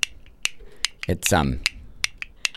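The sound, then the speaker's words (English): Castanets click sharply in a loose, irregular rhythm, about eight crisp bright snaps over a couple of seconds, with a short burst of a person's voice cutting in midway. “Sorry, for those that don't know, I've gone and bought myself not some canasters, but some castanets.”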